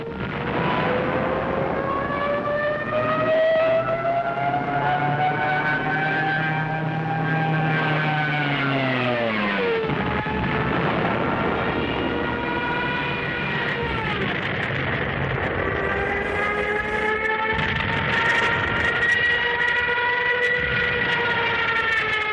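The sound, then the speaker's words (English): The loud siren of a German Stuka dive bomber wails continuously, its pitch sliding down and climbing again over a droning aircraft engine, with no voices. “Germans, too, heard the terrifying wail of the Stuka.”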